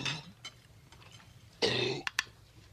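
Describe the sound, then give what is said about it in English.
A dog gags and retches on a bone, a harsh, rasping heave lasting under half a second, followed by two sharp, quick hacking coughs as it brings the bone up, with no one speaking. “Oh, he's just yakking on a bone. He got it up.”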